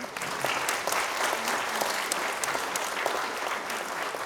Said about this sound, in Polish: Wielkie brawa dla Małgorzaty Szejnert.